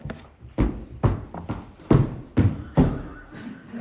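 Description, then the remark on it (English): Heavy footsteps stomp across a wooden floor and up a hall, about eight thudding steps in a steady, forceful rhythm, fairly loud with no talking. “When she stomped through the floor or coming up the hall, I knowed something's wrong.”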